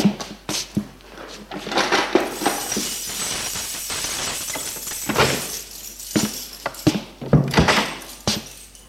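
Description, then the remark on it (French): A door being unlocked and opened: keys jingle, several sharp metallic clicks and clunks from the lock, then heavier knocks as the door swings open, with no talking. “Il ouvre sa porte.”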